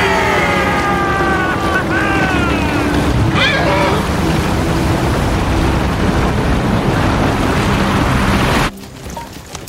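sea waves and surf

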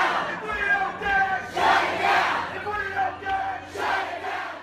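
protesters chanting

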